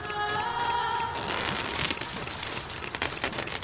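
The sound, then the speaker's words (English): Steady rain patters down outside a workshop with a foliage roof, a dense, even hiss with scattered drops, continuous; faint tonal chirps ring through briefly at the start. “Rain outside, but the foliage of the workshop's roof is keeping it out well enough.”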